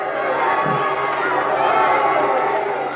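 boxing crowd cheering wildly

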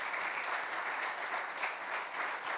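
applause

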